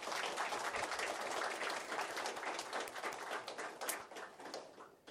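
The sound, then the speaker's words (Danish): An audience claps steadily to welcome two guests from a family active in evangelical church music in Denmark, a dense wash of many hands lasting several seconds before thinning out and fading near the end. “Skal vi give dem en klapsalve?”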